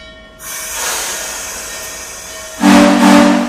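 The 611 steam locomotive lets out a loud, sustained whistle over hissing steam, then a deeper, louder blast kicks in near the end as the train rumbles.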